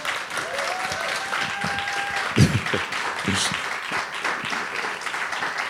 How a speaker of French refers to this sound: Vous pouvez les applaudir.